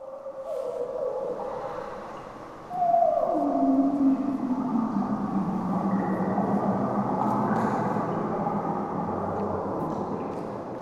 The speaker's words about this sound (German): Ein geheimnisvoller Klang von Wind und Wasser dringt durch den Raum und darin wie von Ferne ein Gesang. Auch wer den Gesang der Wale noch nie gehört hat, kann sich vorstellen, dass er vielleicht so klingen könnte.